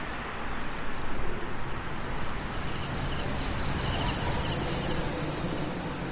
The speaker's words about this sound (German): Zu hören ist der Wind.